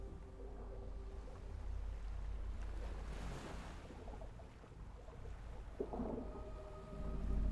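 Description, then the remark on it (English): Steady, rolling ocean surf washes continuously, with a broad low rumble and hiss of water and gusts of wind, swelling slightly toward the end; no voices are present. “All you can focus on is the sound you hear when your ears are above the sea”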